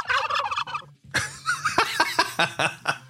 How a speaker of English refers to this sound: Here's a turkey.